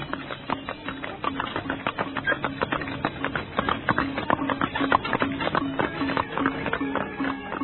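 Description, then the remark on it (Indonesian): Many horses' hooves clip-clop in a dense, continuous patter, several ridden horses moving together at a steady walk as a king's procession departs Kapopongan Palace, fairly loud, with a low steady hum underneath and no voices. “Rasemi dan Rakuti juga sudah duduk di atas punggung kuda. Dan tak lama kemudian, rombongan sang Prabu berangkat meninggalkan Istana Kapopongan.”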